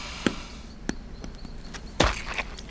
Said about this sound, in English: You can't just stomp on all the apples. Calm down. It was rotten anyway. Ew, it's all over me. Gross.